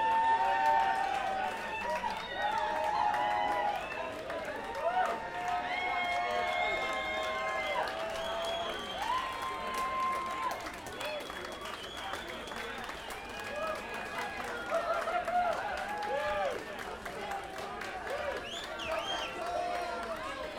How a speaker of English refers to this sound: All right. Give them a few minutes and lots of claps.